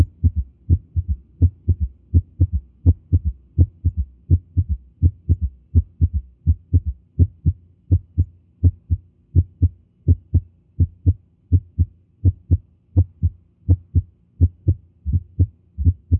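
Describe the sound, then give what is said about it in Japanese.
Heart sounds heard through a stethoscope with a third heart sound: steady, muffled low thumps repeating in a galloping three-beat pattern throughout, with no talking. “1音、2音、そして3音が聞こえています。”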